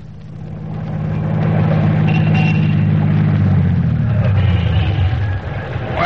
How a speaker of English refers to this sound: Doc, get this car in shape. Sounds like it hasn't been greased in a year.